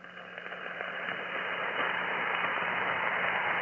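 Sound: radio static between transmissions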